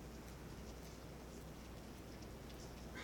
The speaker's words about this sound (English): I know it's raining out there. Everybody listen as we close things up. I know the things that distract us, but our generation is more important than that rain out there.